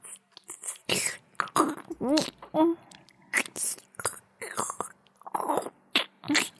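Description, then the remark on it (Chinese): Wet licking and slurping mouth noises of someone licking sauce off a fried hot dog at lunch come in quick repeated bursts, mixed with breathy whispers and short voiced murmurs, fairly loud, with no clear words spoken. “我发出来的声音很奇怪，热狗上的酱差点被挤出来啊！我舔一下而已嘛，有什么奇怪的？”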